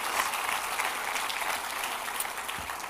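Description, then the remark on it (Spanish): A church audience breaks into loud, sustained applause for the King, a dense wash of clapping that holds steady for the full few seconds with no voices standing out. “Dale un aplauso bien fuerte al Rey porque sí lo estamos declarando.”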